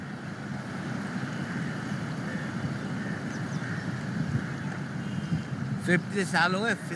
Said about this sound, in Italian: a sentire un po' del suono di questo fiume, acque che scorrono e persone che provano ad abitarlo.